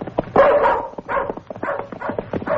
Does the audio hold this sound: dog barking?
yes